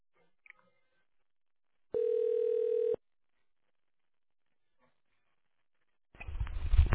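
A single steady telephone line tone sounds for about one second after a faint click on a call to the RED group of companies, while the call is transferred, followed by silence until a louder, noisy burst starts at the very end.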